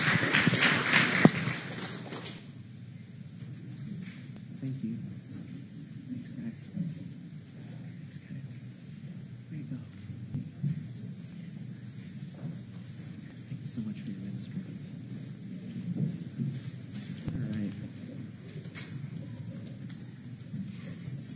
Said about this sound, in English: Will you please give everybody a round of applause for the students and the teachers?